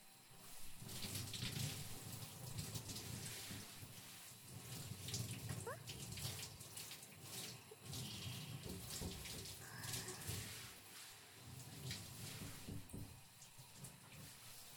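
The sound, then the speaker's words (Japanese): Steady running water from a shower splashes and spatters continuously, rinsing over a body after it has been washed, with uneven gushes and drips shifting throughout. “体はきれいに洗えましたから、あとはシャワーで体を流しちゃいますよ。”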